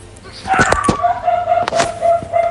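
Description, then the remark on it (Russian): A dog gives a few short, sharp barks in two irregular bursts, loud against a thin, steady whining tone that runs underneath throughout. “Вот, хорошее уже началось. Собачка подтверждает. Простите за нее.”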